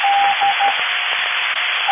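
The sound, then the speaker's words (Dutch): Morse code tones beep over an amateur radio net, a few uneven dot-and-dash bursts of a steady mid-high tone cutting through constant loud static hiss, with no voices. “Ik hoor ook wel een morse toestand.”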